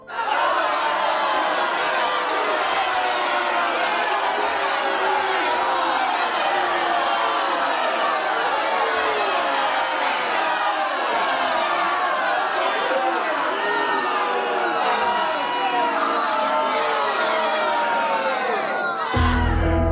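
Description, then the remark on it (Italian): A large crowd in the square of Cefalù, waiting to see a condemned man hanged, murmurs and shouts continuously, many overlapping voices forming a dense, steady roar, with scattered louder cries and cheers rising out of the din for the whole stretch. “Eppure c'è un messo reale che ha in mano una grazia per il condannato e che si sta facendo lentamente largo tra la folla.”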